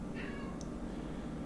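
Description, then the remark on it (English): A single short, high meow from a cat, fairly faint and drawn out briefly, set against a steady low background hum with no one talking. “Dying from these cats.”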